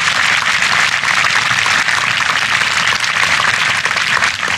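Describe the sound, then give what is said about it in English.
Sustained audience applause for Governor Blanco at a Louisiana governor's inauguration, a dense, steady wash of many hands clapping at once, loud and continuous with no voices standing out. “Let's give Governor Blanco a great round of applause.”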